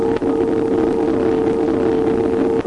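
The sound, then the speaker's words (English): A radar echo returned from the moon, seen and heard on January 10, 1946: a steady, fairly loud electronic tone held over a bed of hissing static, with brief dropouts near the start and end. “After several days of trying, the team saw and heard the echo from the moon on January 10, 1946.”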